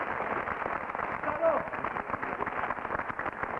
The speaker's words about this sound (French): On les applaudit. Bien. Bravo. Merci.